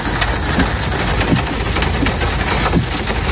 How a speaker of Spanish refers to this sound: Así suena la tormenta de granizo que se registraba a primera hora de la mañana en buena parte de la provincia de Valencia, exactamente esta en Ribarroja del Turia.